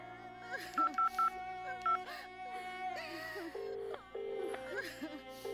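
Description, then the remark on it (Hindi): A phone number is punched in to call a woman's in-laws once more: a quick run of short keypad beeps, then a few longer, lower tones, set against a busy background of murmuring, wavering voices. “एक बार फिर से फोन करके देखो।”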